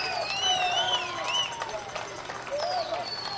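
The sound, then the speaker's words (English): A baseball crowd cheers steadily for a few seconds on a Sunday afternoon with one out to go in the game, a broad roar of many voices with shrill whistles rising and falling over it, holding at a fairly even level throughout. “Crowd getting into it.”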